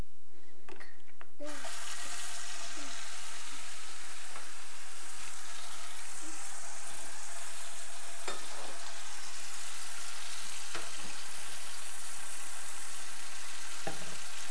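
Water heating up to warm a milk bottle, with a steady hiss and faint bubbling, punctuated by a few soft clicks and clinks, with no one talking.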